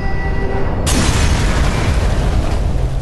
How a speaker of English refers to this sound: The house exploded.